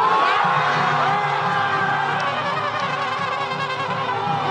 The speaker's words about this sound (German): Das, was so klingt wie der Jubel über ein wichtiges Tor in einem Fußball-WM-Finale, ist die Begeisterung über diese Worte von Südkoreas obersten Richtern.